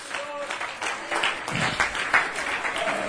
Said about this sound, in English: Oh, somebody clap their hands unto the Lord and give him praise.